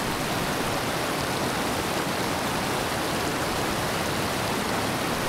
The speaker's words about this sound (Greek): οι καταράκτες του ηλιοχωρίου ξεπροβάλλουν ανάμεσα σε έλατα και οξιές, με το νερό να πέφτει ορμητικά σε βαθιές φυσικές λίμνες.